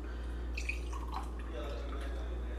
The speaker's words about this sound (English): And we're gonna pour 2 ounces of fruit punch. Let's open the fruit punch. We're gonna pour 2 ounces of fruit punch.